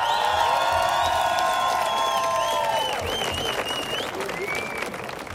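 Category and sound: crowd, audience applause and cheering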